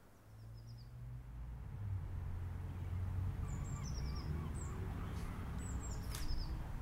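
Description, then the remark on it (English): A scattering of geese honk in short, repeated calls, layered over a steady low rumble like traffic. “Is that birds?”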